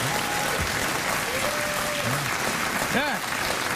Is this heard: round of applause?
yes